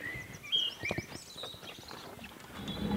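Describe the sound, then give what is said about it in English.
A greenhouse door is pushed open with a brief high squeak and a few knocking clunks, followed by soft shuffling steps while a blackbird chirps faintly in the background. “Push and open the door.”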